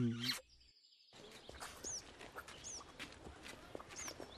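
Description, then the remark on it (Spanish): A bird that has just been caught gives a few short, bright chirps spaced a second or so apart, heard over scuffling footsteps and rustling ground noise outdoors. “¡Atrapé un pájaro!”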